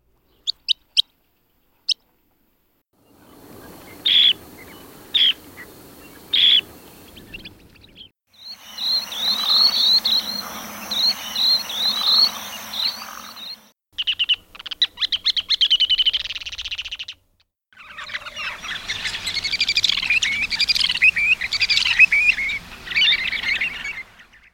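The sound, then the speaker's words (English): A sequence of shorebird calls from the Stokes Field Guide to Bird Songs, courtesy of Lang Elliott: sharp, high chips and twitters from a sanderling, dunlin, least sandpiper, ruddy turnstone and short-billed dowitcher, in separate bursts that grow from sparse clicks to dense, overlapping chatter. “You'll hear a sanderling, dunlin, least sandpiper, ruddy turnstone, and short-billed dowitcher, courtesy of Lang Elliott and the Stokes Field Guide to Bird Songs.”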